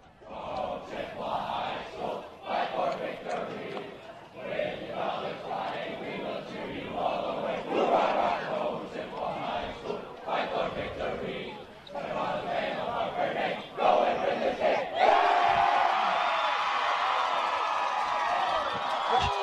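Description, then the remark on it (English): A large Chi High student section roars and cheers continuously after a 20–14 overtime win over River Falls, with shouts and whoops rising into a sustained loud, jubilant din that swells even louder toward the end. “What an incredible student section they are, jacked as they have been.”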